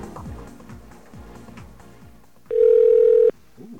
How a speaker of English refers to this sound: Let's dial our own phone number.